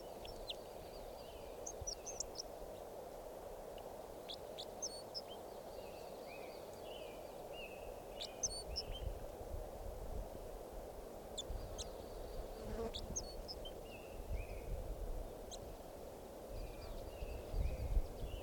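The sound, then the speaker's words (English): Calls of a wild red crossbill, recorded as red crossbill number 547: scattered sharp, high, short chip notes, some in quick pairs, sounding faintly over a steady low insect-like drone for the whole stretch. “So recording that bird was just collected. He'll be number red crossbill number 547.”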